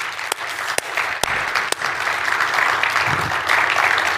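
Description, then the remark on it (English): Sustained audience applause for the Teen Switch volunteers, tech team and band fills the whole clip, a dense wash of many hands clapping at a steady, loud level, with a few sharper individual claps standing out early on. “Can we just give them another big round of applause?”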